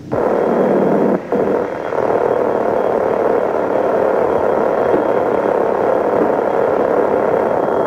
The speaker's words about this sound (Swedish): Detta är polisens radioexpedition. Just nu gick tjuvlarm. Radiobil 15, radiobil 15 från radioexpeditionen. Åk till 85 Sankt Eriksgatan, 85 Sankt Eriksgatan, Konsumbutiken.